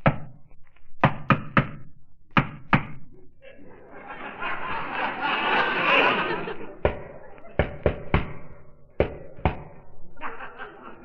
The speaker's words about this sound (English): Shall I ring the bell? No, no, don't touch the bell. Guy told me to knock.